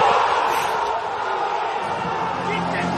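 A large stadium crowd roars steadily in celebration of a match-winning free-kick goal against Ried on 9 February 2021, a dense, sustained wall of cheering and shouting at constant loudness throughout, with no single voice standing out.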